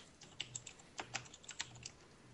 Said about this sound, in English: I can hear typing.